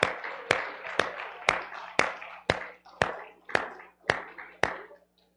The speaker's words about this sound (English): Let's give the Lord another hand clap while you make your way back to your seats.